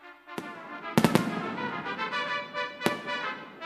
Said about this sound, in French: Devant le feu de la Saint-Jean, par une fraîche nuit d'été, j'attends le feu d'artifice et son explosion de gaieté. Les couleurs mirifiques dessinent dans le ciel noir des figures fantastiques si réjouissantes à voir.